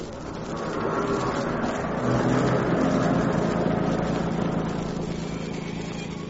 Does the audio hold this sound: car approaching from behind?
yes